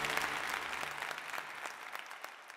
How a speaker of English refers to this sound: The crowd goes wild.